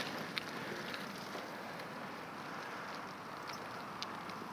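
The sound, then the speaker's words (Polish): A strong wind picking up blows as a steady, soft rush with a low rumble underneath, broken only by a few faint ticks and crackles; no one speaks. “Ale nie wiem, wiatr silny się zrywa, więc może być różnie.”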